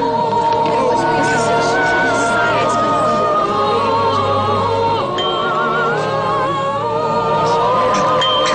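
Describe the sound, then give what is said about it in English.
A steady murmur of many voices fills the scene, a dense, continuous crowd babble with no single speaker standing out, holding an even level throughout. “But we'll wait for the crowd to disperse first.”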